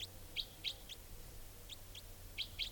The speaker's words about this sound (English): And this type 4 female is calling here. Wild bird.